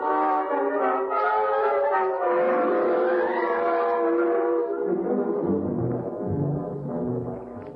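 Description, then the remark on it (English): A loud siren wails continuously, signalling that a search is under way, its rich, horn-like tone sliding up and down in pitch, with a deeper rumble joining toward the end. No voices are heard. “that siren means they're searching for me.”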